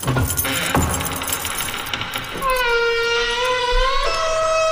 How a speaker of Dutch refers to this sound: Nou, dan dus, geef ik jou die sleutel. Ja. Nou, ik pak ze en ik zal die deur even openen.